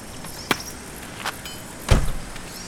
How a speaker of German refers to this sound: Hey, da kommt ein Auto auf den Schrottplatz.